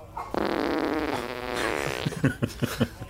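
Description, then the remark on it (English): A long, buzzy fart with a wobbling, rising pitch stretches for over a second, then ends in four or five short sputtering pops. No one speaks. “If Usador can conjure tiny lightning for electricity, he can certainly conjure some gas.”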